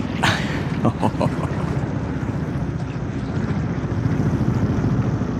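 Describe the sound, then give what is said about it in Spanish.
A motorboat engine rumbles steadily as the boat approaches a harbor dock at night, a dense low drone with wind and water noise, while brief bursts of voice cut through near the start. “Al fin, la lancha de motor se aproxima más al muelle.”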